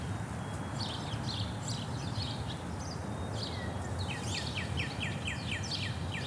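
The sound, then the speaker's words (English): Birds chirp and trill repeatedly in a neighborhood, a rapid series of short descending notes standing out over a steady low rumble of outdoor background noise, like traffic or wind. “It uses AI to identify the birds singing near me.”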